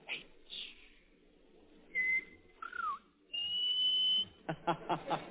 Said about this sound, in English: Bob Hope. In whistling, those H's always sound like C's.